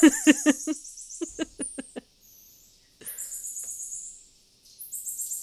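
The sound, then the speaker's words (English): A rapid series of short, chirpy animal fee calls, about eight in quick succession, followed by thin, very high-pitched whistling tones that fade in and out, with no voices. “Yeah, these calls are called fee calls, which I think is an appropriate name for it.”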